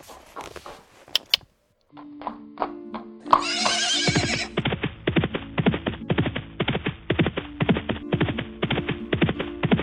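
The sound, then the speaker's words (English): A horse whinnies with a high, wavering cry, then hooves clip-clop in a steady, brisk rhythm of sharp knocks that continues to the end, with no one speaking. “We should take the horses and go.”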